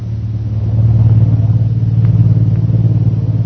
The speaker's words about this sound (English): Jungle Jim and Shanghai Lil are standing near Bhutan's hut watching a plane that is about to take off.